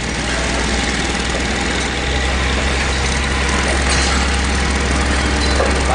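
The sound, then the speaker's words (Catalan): A heavy construction machinery engine idles steadily at summer roadworks in Barcelona, a loud, constant low rumble with a broad mechanical hum over it, with no voices. “Soroll, operari, circulació desviada, més sorolls encara del trànsit, calor, maquinària, gent exasperada...”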